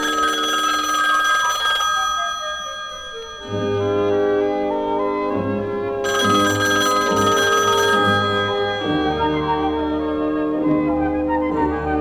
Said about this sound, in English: Suddenly the phone rings.